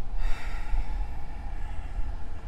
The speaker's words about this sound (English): Gesundheit.